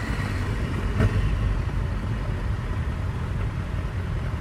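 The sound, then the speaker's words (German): A dense, continuous rumble of hundreds of motorcycle engines idling and revving all around a single car, riders arriving from across North Rhine-Westphalia, Germany; a low, steady mechanical drone that fills the space, with a brief louder burst near the start. No voices. “Das sind hunderte Motorräder, die um mich rum sind. Ich bin der einzige PKW.”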